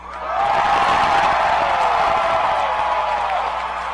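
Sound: crowd screaming and cheering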